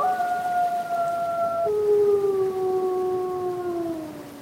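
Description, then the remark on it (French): A pack of about eight wolves, a family with the dominant male and female and last year's young, howl together in long, overlapping tones at different pitches, one voice dropping lower midway while the others hold steady and slowly fall, a continuous chorus that carries throughout. “Alors, dans cette meute, il y a combien de loups là ?”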